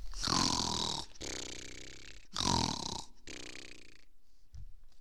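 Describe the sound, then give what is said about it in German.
A voice imitates snoring, two slow cycles of a rasping, breathy inhale followed by a rumbling, throaty exhale, loud, trailing off into near silence. “Es dauerte nicht lange, so schlummerte er ein, blies und schnarchte.”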